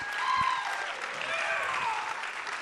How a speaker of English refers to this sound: Can we give our seniors a big round of applause?